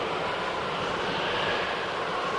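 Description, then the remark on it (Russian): A steady, hollow rush of wind blows without pause, with a thin whistling tone running through the broad airy roar. No voices are heard. “Можно включить шум дождя или рокот волн, гул толпы или свист ветра”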